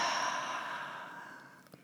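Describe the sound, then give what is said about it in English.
A slow, deep breath out through the mouth during a guided breathing exercise, releasing tension, a soft airy whoosh that gradually fades away, with no talking. “And breathing out, releasing everything you don't need through your mouth.”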